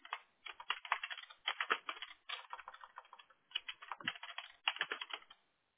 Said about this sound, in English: I confirmed that the phone number, sorry if you hear me like typing and talking to myself, okay.